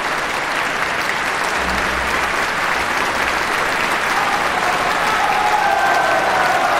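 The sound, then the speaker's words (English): A large crowd at Carnegie Hall applauds steadily in a dense, loud wash of clapping, with cheering voices mixed in throughout a standing ovation in tribute to an artist; a faint low hum sits underneath. “This audience is on its feet, cheering and applauding in tribute to a great artist,”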